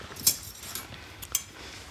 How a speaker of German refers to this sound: Zwei wunderschöne gefrostete Gläser mit nochmal frischem Eis.